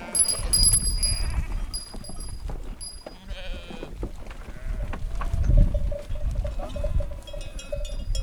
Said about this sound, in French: Et surtout qu'une brebis, quand elles ont vu qu'on voulait les attraper, ben, elles vont se cacher